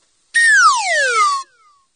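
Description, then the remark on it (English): A single loud slide whistle glides smoothly downward in pitch for about a second, a bright, reedy tone sweeping from high to low before cutting off, with no voices. “I mean, I love slide whistles, but they say to me wacky more than they say ugly.”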